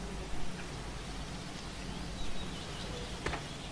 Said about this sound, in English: Goddamn birds.